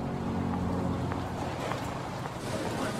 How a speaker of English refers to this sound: He drives off. She steps out onto the cobbled street and watches the car drive away.